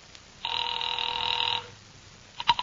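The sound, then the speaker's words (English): A single ring tone sounds over the line for about a second, a steady buzzing tone of a call dialed to Pacific Seaboard Fidelity ringing at the other end, followed by a few faint clicks. “sat down by Amici's pet aversion and doodled with the dial.”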